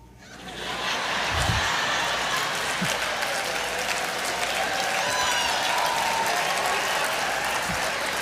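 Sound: audience applause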